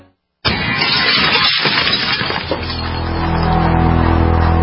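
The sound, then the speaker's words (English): Window glass smashes in a smash-and-grab burglary break-in, one sudden, loud crash after a brief silence, with shards scattering and tinkling, then a low engine drone swells steadily underneath until the end. “one in every 50 homes will have a break-in this year. Burglars call it smash and grab.”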